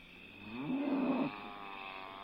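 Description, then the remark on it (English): A single drawn-out moo from a cow in Charlie Barton's couple of acres of pasture down the hill, strained and uneasy, swells up for about half a second over a steady background hum, then cuts off abruptly. No one speaks. “There are cows around here?”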